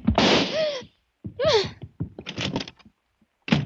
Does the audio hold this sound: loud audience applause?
no